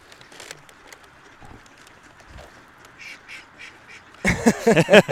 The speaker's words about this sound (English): And they want to talk. It's pretty crazy what these mallards will do when they go out into the neighborhoods and feed.